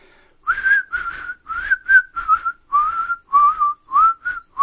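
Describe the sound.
A person whistles a slow, eerie melody, Bernard Herrmann's Twisted Nerve theme as heard in Kill Bill, a series of clear sustained pure tones that rise and fall in steady phrases, with no talking.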